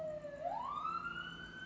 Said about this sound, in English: There goes the police car, the nightly police sirens.